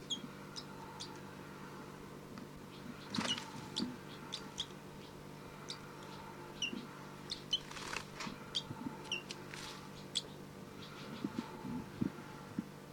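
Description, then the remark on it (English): Repeated thin, high-pitched chirps from a young bird, Bird 302, begging from bird 5-9 and getting nothing, sounding in quick irregular bursts over a low steady hum, with a couple of brief rustling flutters between calls. “This is Bird 302 begging from 5-9.”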